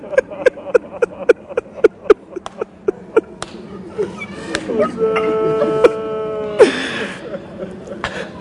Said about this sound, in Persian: این زن و بچه صدا رو میشنون میفهمن ابی عبدالله این دفعه ذوالجنا اومده داره شیهه میکشه، ولی از صدای ابا عبدالله خبری نیست.